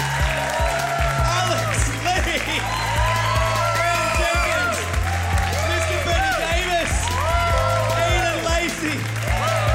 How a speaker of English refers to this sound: Can I have a big hand of applause